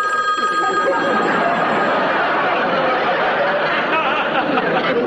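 An old-fashioned telephone bell rings loudly, a continuous metallic jangle that fills the full five seconds without pause.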